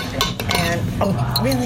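A fork clinks against a bowl several times at an uneven pace, close and fairly bright, with a low steady background murmur underneath.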